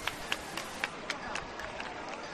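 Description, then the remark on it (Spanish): A crowd claps together in a steady, quick rhythm over a dense wash of crowd noise, as the Sin Pecado is carried through the door into the sanctuary behind a Guardia Civil cordon, at 3:14 in the morning. “Ahora empiezan los aplausos y ya ahora se va hacia adentro el sin pecado.”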